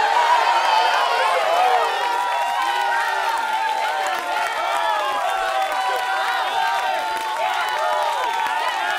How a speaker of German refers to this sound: Jubel, Kreisch, Gröhl, genau.